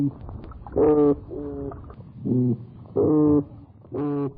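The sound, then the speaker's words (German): Toadfish calls: six short, low, buzzy hoots with a humming, foghorn-like tone, alternating louder and softer in an irregular rhythm, with no talking. “Das sind Geräusche, die der Krötenfisch macht.”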